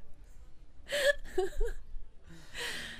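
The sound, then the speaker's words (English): A person imitates snoring with a few breathy, nasal vocal bursts, a rough inhale-like rasp followed by a longer airy exhale, with no talking. “Snoring, apparently.”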